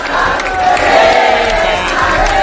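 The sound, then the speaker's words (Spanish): A crowd at the Sabadell bank headquarters shouts and cheers loudly and steadily in the morning, a dense wash of many voices with overlapping yells and whoops, shouting 'César' for CEO César González Bueno, no pauses throughout. “Esta mañana, por cierto, se escuchaban gritos en la sede del Sabadell, casi como si aquello fuera la final de la Champions.”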